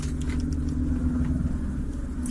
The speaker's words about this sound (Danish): Hov, undskyld, nu kommer der en helikopter hen over bygningen her, kan jeg høre. Det er nok en, der er på vej til Rigshospitalet lige herovre.